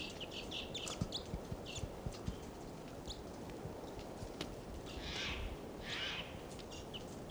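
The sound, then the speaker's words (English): A wild bird that has flown closer gives a few short, high calls, with two fuller bursts near the end, over a steady low rustle and scattered soft thumps. No one speaks. “Pointing again at the wild bird who flew closer.”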